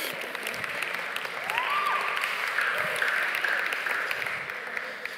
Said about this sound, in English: can you give him a round of applause there?